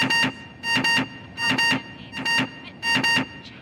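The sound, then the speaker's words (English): An intercom buzzer sounds in loud, harsh bursts, mostly in quick pairs, repeating roughly every three-quarters of a second over a faint background hum, with no one talking, as someone presses the buzzer button instead of holding the intercom button. “No, that's the buzzer button. You have to hold the intercom button.”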